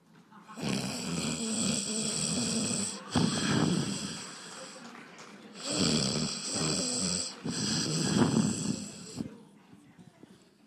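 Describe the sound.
A person loudly imitates Jesus snoring while asleep in the lower part of a ship during a storm: several long rasping, rattling breaths in a row with brief pauses between, harsh, with no other sounds around them.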